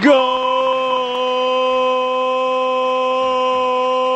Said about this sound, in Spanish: Suena el Morse en la hora Maldini porque hay gol en el Sadar. Gol de Osasuna, Alberto.